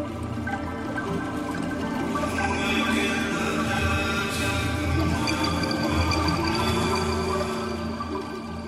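Ambient instrumental background music of dense, sustained droning tones and layered harmonics, holding a steady moderate loudness throughout, with a faint watery, flowing texture and no voices.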